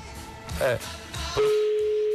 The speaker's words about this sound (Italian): Vediamo se ci rispondono, perché è tutto veramente in diretta. Allora, datemi ovviamente lo squillo, quello che sia in onda, perché